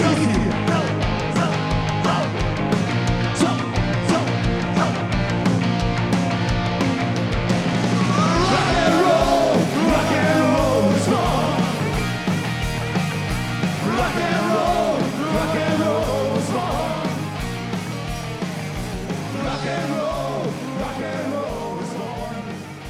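A loud live rock band from London plays steadily for over twenty seconds: driving drums, distorted guitars and bass under shouted, yelling vocals, with the dense, raw sound of a concert recording made during a tour stop at the alte Chordirektion.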